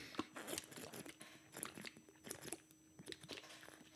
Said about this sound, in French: Je me prends une petite gorgée de Play Endurance parce que faut pas déconner.